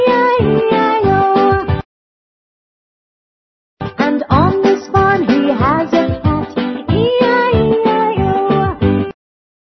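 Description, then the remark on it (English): A singing voice imitates a cat's meows in the nursery song Old MacDonald Had a Farm over a bouncy musical backing, with repeated rhythmic meow sounds, a short pause of silence, then more sung meows, loud. “With a meow meow here and a meow meow there.”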